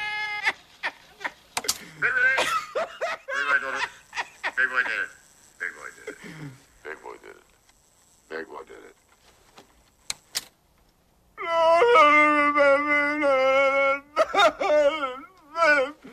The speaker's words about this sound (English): Tracy pinches the spooled wire in the recorder, slowing down its speed